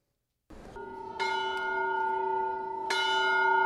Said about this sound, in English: In a country torn by a violent civil war, the sound of a church bell ringing stands in stark contrast to the sounds of gunfire and bombs that have become the norm.